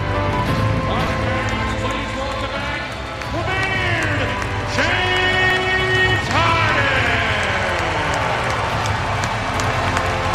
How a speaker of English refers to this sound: Remember, it's not a capacity crowd. Sentimental moment for James Harden. Mostly. And you could hear the smattering of applause amongst the some 3,900 fans here.